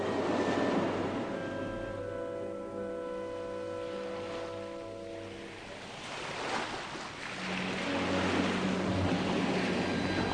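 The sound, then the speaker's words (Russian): Heavy sea waves wash and surge steadily onto the shore, rolling one after another and barely lifting a lone moored boat, rising into fuller breaking swells toward the end, with a low droning hum beneath the water in the first half. No voices. “Тяжелые волны мерно и ровно катились одна за другой, едва приподнимая одинокую лодку, причаленную к берегу.”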